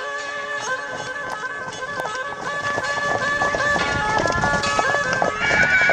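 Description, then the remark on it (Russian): Horse hooves clip-clop in a steady rhythm while a horse neighs and whinnies with drawn-out, wavering cries, loud, with no talking. “Просто сел на коня и исчез.”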